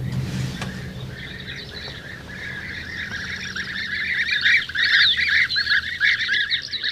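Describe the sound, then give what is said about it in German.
A chorus of European bee-eater calls played at a museum in Halberstadt, Germany, from a lectern after entering the number 48: rolling, liquid trilled chirps repeating and overlapping, growing louder toward the end over a low steady hum. “Ich gebe jetzt die 48 ein. Bienenfresser.”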